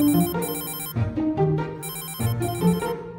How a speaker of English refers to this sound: Then the phone rang.